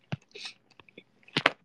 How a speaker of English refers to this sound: Wow. There's really 31 of you guys listening to just us chewing.